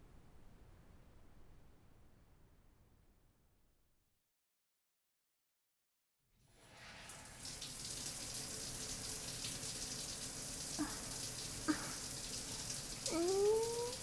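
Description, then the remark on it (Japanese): After a few seconds of near silence, a steady hiss of running shower water starts and continues, with a few faint squeaks and brief high-pitched sounds over the spray. “ねえ、一緒にシャワー浴びない？”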